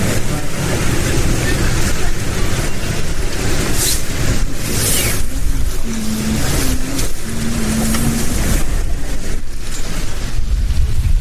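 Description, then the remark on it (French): A boat motors through a channel with a steady, droning engine rumble, mixed with wind and water wash. A low tonal hum rises briefly midway. “Un bateau passe dans le chenal.”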